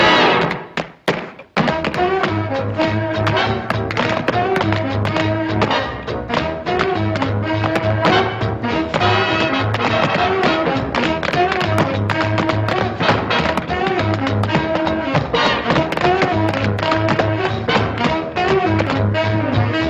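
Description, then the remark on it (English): Quick, rhythmic tapping and thudding footwork from dancers jumping in a clip from the 1943 film Stormy Weather, sharp hits in fast bursts, riding over a loud, steady big-band accompaniment that plays throughout after a brief opening. “Stormy Weather from 1943, and you have to watch this video because they're just like jumping and doing these amazing rhythms and really like strong technical work, and they were more or less self-taught.”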